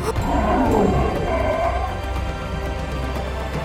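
A lion roars and growls in a deep, rumbling, sustained voice in a circus arena, staying loud for several seconds, with no one speaking.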